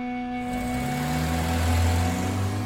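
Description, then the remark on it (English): A car engine hums steadily, then its low droning pitch shifts and climbs as Prince Mohammed bin Nayef's car pulls out of the gates of the king's palace in Mecca. The sound stays loud and continuous, with no voices. “As his car pulled out of the palace gates, Prince Mohammed bin Nayef fired off a series of panicked text messages.”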